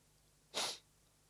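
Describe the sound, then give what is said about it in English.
A single quick, sharp sniff, a short hissy intake of air standing alone against quiet background with no talking. “Was that a nervous sniff?”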